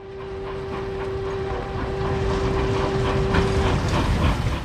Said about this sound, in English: When the train arrived at Kimcheon Station